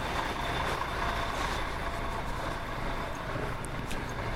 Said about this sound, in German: Noch ein Bus. Das ist auch ein 250, oder?